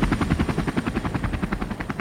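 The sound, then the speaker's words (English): A loud NYPD police helicopter passing overhead, its rotor blades thumping in a fast, steady rhythm with a broad engine roar underneath, drowning out everything else. “Oh man, I think it's an NYPD helicopter. They're so annoying.”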